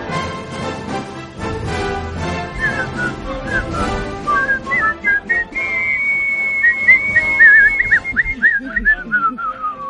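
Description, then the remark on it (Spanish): A person whistles a lively solo melody, the clear, bright notes sliding and trilling over a busy background, growing louder and more prominent toward the end. It is heard during the segment 'Dos apellidos vascos' presented by Es la Tarde. “se ha hecho un solo de silbido aquí, vamos, alucinante.”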